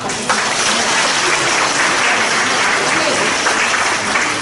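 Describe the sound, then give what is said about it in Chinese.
An audience in Nanjing breaks into sustained applause, a dense, even roar of many hands clapping at once that stays loud and steady for the whole stretch, with a few voices mixed into the din. “我祝鼓掌的朋友今年发财100万。”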